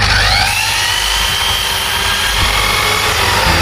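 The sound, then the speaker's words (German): A power saw whines steadily and loudly, its motorized buzz holding constant as it cuts wood for a chair in a designer furniture workshop, with no voices. The wood comes from old refugee boats at a ship graveyard on Lampedusa. “Malik steht an der Säge und schneidet das Holz für einen Stuhl zurecht.”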